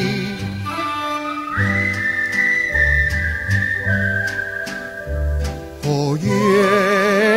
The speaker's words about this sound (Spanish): se escucha siempre un vals silbando así al pasar. Siempre a la misma hora, el hombre del silbido, su tema preferido, repite sin cesar.